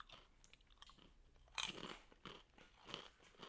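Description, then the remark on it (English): Crisp crunching of a corn snack shaped like large fish food, being bitten and chewed while tasted for a review, with several sharp cracking bites followed by steady, rhythmic chewing, no talking. “Okay, crunch is good. Crunch is good.”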